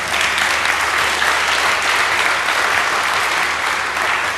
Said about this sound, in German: Auch hier, da kann man durchaus mal einen Applaus geben.